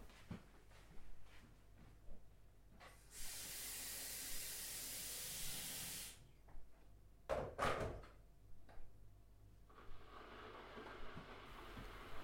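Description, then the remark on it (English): A kettle hisses loudly with rushing steam for about three seconds, followed by a few sharp clunks and knocks, then a softer, higher steam hiss rising at the end; no one speaks. “You put her down and I'll put the kettle on.”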